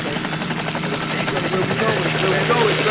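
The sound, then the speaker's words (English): A voice imitates a helicopter rotor with a steady, rapid chopping drone that holds at an even, fairly loud level for a few seconds, with no actual words. “Here, let me make this helicopter.”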